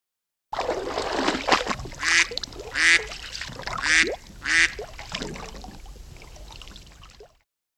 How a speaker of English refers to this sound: Look at small duck. Small duck is happy. Small duck is playing in the water. Look at me, Mummy. Quack, quack.